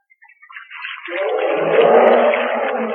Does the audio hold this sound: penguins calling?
yes